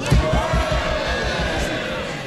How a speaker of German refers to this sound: 329 zu 302, großer Jubel im Unterhaus.